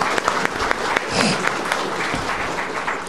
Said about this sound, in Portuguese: Uma salva de palmas para o meu senador aqui.